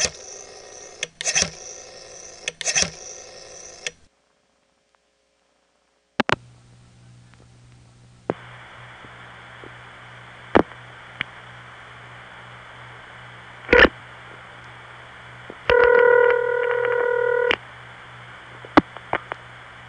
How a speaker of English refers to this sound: However, there was one thing about it that I didn't like from Grandma's house, and that was there were no tones. A long-distance call would just pause, click once loudly, and then make a few subtle noises after that.